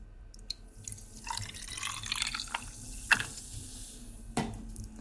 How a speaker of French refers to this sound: Et je tope avec un petit peu d'eau gazeuse.